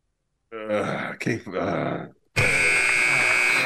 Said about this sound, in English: I'm about to buzz him out.